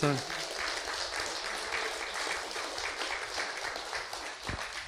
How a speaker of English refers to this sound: if you guys would just stand up, just so everybody can see you, just give them a round of applause.